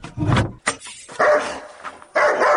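A dog barks, loud and insistent, giving about five harsh barks in an uneven rhythm with brief gaps between them. No one speaks.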